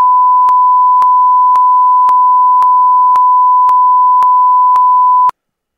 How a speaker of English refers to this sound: If you were to guess what came out of his mouth, and I'm willing for you to say it, and we'll just beep it out accordingly, what do you think came out of his mouth to the ref?